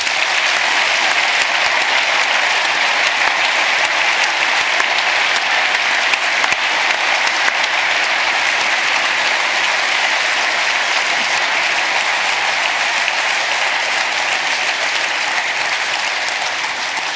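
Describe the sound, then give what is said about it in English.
A large audience at the Berlin Congress Center claps loudly and steadily for the audio and video crew, a dense wash of hands that holds at full strength for nearly twenty seconds before easing only slightly at the end. “So a big round of applause for them.”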